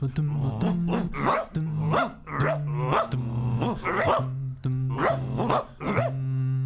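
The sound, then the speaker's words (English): A dog barks over and over in quick, rhythmic bursts, loud, with rough growling running between the barks for several seconds. “Hey, lady, can I pet your dog? Oh, what a nice doggy.”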